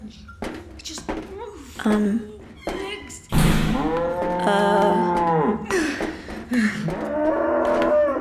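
A cow moos loudly, with long drawn-out lowing calls that follow a sharp thump, after some shorter grunts and shuffling noises at the start.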